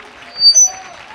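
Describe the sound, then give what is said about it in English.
An audience claps together in a dense, steady wash of hand claps, with voices and a faint sustained musical tone rising over the clapping. “Clap your hands, lift your voice.”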